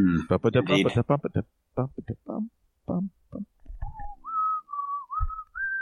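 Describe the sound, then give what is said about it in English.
After a few seconds of speech, a person whistles a short, eerie melody of a spooky TV theme tune, sustained, gently wavering notes, clear, with no talking over it. “Yeah, whistling is spooky, just inherently.”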